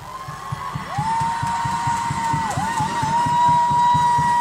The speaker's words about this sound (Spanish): y en la decisión de la sede, de la nueva sede, va por ovación y aplauso de los presentes. Así que a las pruebas me remito, escuchemos el momento de la aclamación para que se comprenda el espíritu y la vivencia de ese, de esa situación.